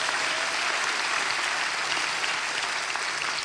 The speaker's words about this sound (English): So why don't we give a round of applause, appreciation for everybody made all this possible.